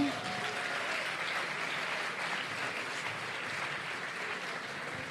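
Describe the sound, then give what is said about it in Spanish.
Sustained audience applause at an awards ceremony for the winning nominees, Carne Cruda, a dense, steady crackle of many hands clapping at once, fairly loud and continuous from start to finish with no voices standing out. “Otro aplauso.”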